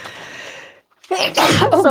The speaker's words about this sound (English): Bless I'm sneezing. You. Excuse me. That was so loud.